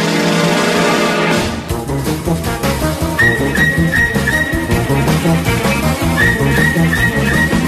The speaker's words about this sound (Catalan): La segona o tercera xiulada, ja. Exacte. Anem, és una música d'enigma, és una música d'enigma.